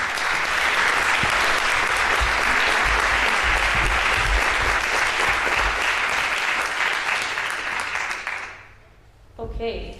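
Steady, dense audience applause at Congress for the next speaker, a loud wash of many hands clapping for about eight seconds before quickly fading out, with a brief new sound starting just at the end.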